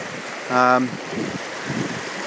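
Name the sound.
flowing stream water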